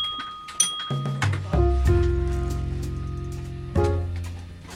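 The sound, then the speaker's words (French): A train's signal that its doors are closed and locked: a few high tones and soft thumps, then a steady, droning low electronic tone that steps up in pitch and holds, with no talking. “Le bruit là, le feeding, c'est pour dire que les portes sont fermées et verrouillées.”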